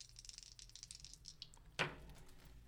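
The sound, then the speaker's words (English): Two dice are rolled in a game of chance, rattling and clattering in a quick burst of small clicks, ending in a sharp knock as they land, followed by a faint settling rattle. “So our last round is going to be the game of chance where you're going to roll two dice and then we are going to see what they land on for an excerpt.”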